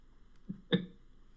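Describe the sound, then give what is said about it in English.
A single loud sneeze that the sneezer tried to cover: a short soft lead-in sound, then one sharp, explosive burst that quickly fades into quiet. “Got a sneeze coming.”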